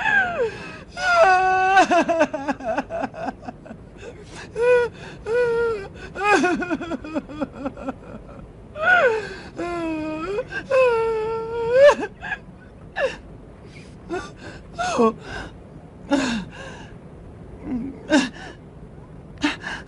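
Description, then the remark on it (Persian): A woman cries and sobs, with gasping breaths, quavering wails and shaky whimpers coming in uneven bursts over about twenty seconds. “سالی میشه که گریه نکرده بودم.”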